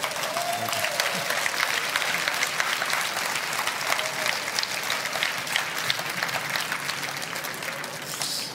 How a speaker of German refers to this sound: Ich darf ganz herzlich begrüßen jetzt den frisch gekürten Leipziger Buchpreisträger in der Kategorie Sachbuch-Essayistik, Harald Jehner. Applaus.